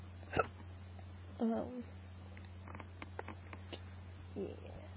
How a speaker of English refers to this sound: Well, I think that's mostly it as far as my hiccups go. They're done.